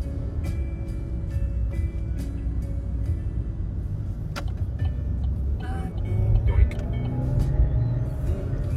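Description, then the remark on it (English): Road traffic rumbles past in a steady, low drone of engines, with occasional sharp clicks and a slight swell in loudness toward the end. “Well, the traffic's starting early.”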